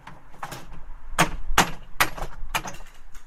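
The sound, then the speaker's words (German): A hammer knocks repeatedly against wooden slats, working nails loose to take down a sukkah, a hut of wooden boards built for the Feast of Tabernacles: about seven sharp, woody strikes in an uneven rhythm, the middle blows loudest, with a faint creak of wood between them. “hämmern die Nägel aus den Latten und bauen die Hütte ab.”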